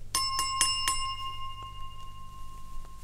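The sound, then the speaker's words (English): The right-hand wine glass, used to pinpoint the right stereo channel position, is struck four times in quick succession. Each tap is bright and sharp, leaving a clear, high ringing tone that hangs on and slowly fades for a couple of seconds. “Now I'll move over to the right, and here is the right-hand wine glass.”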